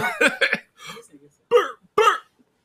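A series of short, throaty burps erupts up close, two quick ones back to back, then a breathy rasp and two louder, separate belches after brief pauses.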